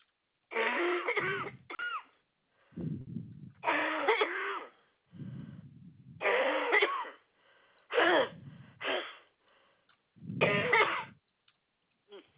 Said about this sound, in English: got to cough again. Hang on. Yeah, hang on.